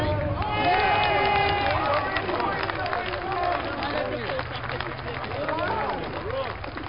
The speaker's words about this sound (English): Crowd goes wild. It's real crazy. You see all the UK kids out there.